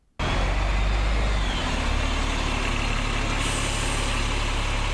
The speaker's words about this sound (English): Auckland's Queen Street, full of buses, looking rather empty, under alert level 3.